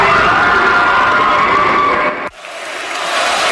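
A large crowd in an arena cheers loudly in a dense, continuous roar for about two seconds at Kobe Bryant's final game, as the Lakers close out his career with a win. The sound then cuts off abruptly, leaving a softer crowd murmur that slowly builds again.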